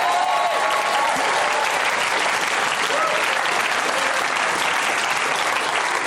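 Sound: audience cheering and applause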